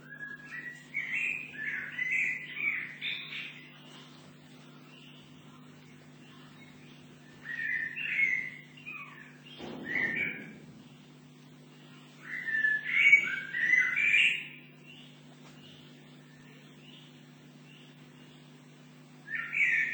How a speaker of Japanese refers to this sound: なんかお城、昔のお城の跡のようなところで、録音した時だと思います。茂みの中で、ブラックバードが、得意な歌を張り上げています。